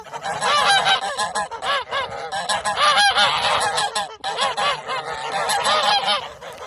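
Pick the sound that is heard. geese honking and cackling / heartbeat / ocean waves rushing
geese honking and cackling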